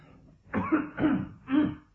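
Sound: cough and throat clearing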